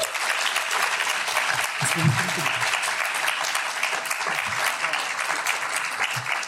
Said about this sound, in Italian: Un applauso.